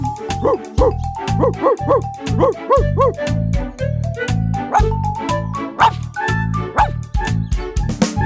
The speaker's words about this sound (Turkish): Ho ho havlarım, kuyruğumu bir köpeğim.